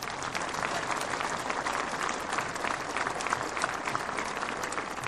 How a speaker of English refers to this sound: And yes, please clap for him.